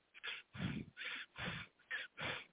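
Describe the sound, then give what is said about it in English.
Deliberate, conscious breaths drawn in and pushed out in a steady rhythm, about five breathy pulses with no talking over them. “When you breathe in this fashion, in a conscious way, you are doing that.”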